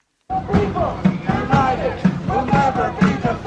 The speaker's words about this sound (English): There are hundreds of protesters out on this street. Crowds where Alex Pretty was shot dead, they've been laying flowers, there are candles burning. And just here where I'm standing, they demand ICE is withdrawn from this city.